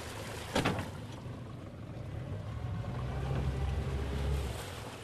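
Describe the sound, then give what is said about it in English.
A small aluminum boat on a shady slough in the Atchafalaya Swamp as a man reaches over the side for a crawfish trap, with a low steady rumble, a sharp hollow knock near the start and faint water sloshing against the hull. No one speaks. “On a shady slough in the Atchafalaya Swamp”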